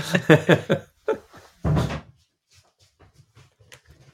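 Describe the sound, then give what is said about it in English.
A door is opened to let a cat out: a quick series of knocks and latch clicks, then a short scraping swing as it opens, followed by faint scattered taps. “And my cat's scratching on the door. I just need to let her out.”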